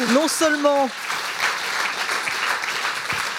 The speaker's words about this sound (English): Je voudrais qu'on applaudisse encore pour. Merci beaucoup à tous.